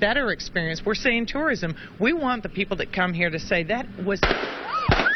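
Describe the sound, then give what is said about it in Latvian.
A woman is talking in a live TV interview at a shopping centre near Moneta, Virginia, when two sharp, loud gunshots crack out about half a second apart, and a high rising cry breaks in between them. “Pēkšņi atskanēja vairāki šāvieni.”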